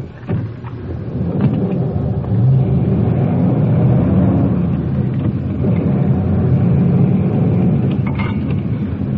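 A police car engine rumbles and revs steadily as the car pulls off the street with a suspect in the back seat, a loud, continuous low roar that swells and holds for several seconds, with no voices.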